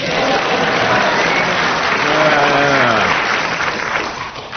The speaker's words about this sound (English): They all clapped. They agreed with you.